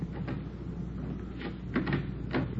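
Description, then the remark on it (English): A door handle rattles and a latch clicks a few times, followed by the creak and thud of the back door at the rear of a hotel being pushed open, with a steady low background hum. “The stains lead over this way to the back door here. Let me try.”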